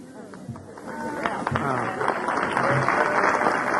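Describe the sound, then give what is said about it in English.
An audience claps for the speaker's wife as she is introduced at a panel session, the dense patter of many hands swelling and holding steady, while voices murmur and chatter underneath through the start. “Now, you new friends don't know what they're clapping for.”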